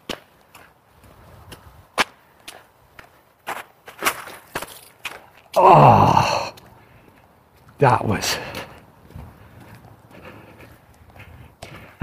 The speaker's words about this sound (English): The boots are waterproof as long as you don't step in a puddle that is too deep. And that was too deep.